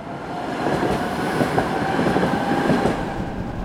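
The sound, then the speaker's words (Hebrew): A train rolls steadily through a station, its loud rumble carrying a faint rhythmic clatter of wheels over the rails, with no voices. “אנחנו רואים אדם שנכנס בבגדים כתומים זוהרים לתוך תחנת רכבת. בפנים הוא נוסע בין רכבות, עובר בין תחנות, אנחנו לא יודעים מה המסלול שלו.”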